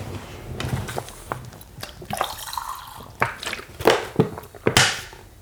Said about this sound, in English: I'm drinking water. Good man. Like a fucking grown-up. Oh, actually, not like a grown-up, like a tiny child. Out of a sippy bottle.